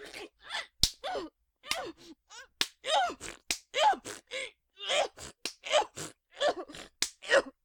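A series of sharp slaps to the face land at irregular intervals, each a crisp smack, interspersed with breathy gasps, moans and short vocal sounds between the hits.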